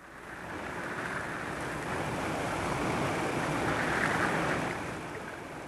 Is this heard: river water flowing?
yes